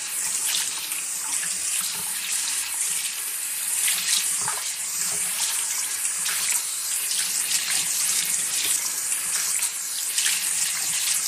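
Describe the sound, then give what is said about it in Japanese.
Steady shower water streams, a continuous bright hiss with soft splashing fluctuations as it rinses a person's hair and head before shampooing, with no voices throughout. “はい、シャワーで頭をゆすりました。”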